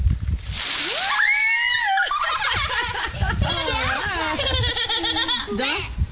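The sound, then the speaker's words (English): A bucket of ice water is poured over a person's head for an ALS ice bucket challenge: a brief rush of water splashes down at the start, immediately followed by loud, high-pitched yelping and shrieking cries that waver up and down for several seconds. “Now, what kind of guy would be asked to preach at his church and challenge his pastor to pour ice on his head?”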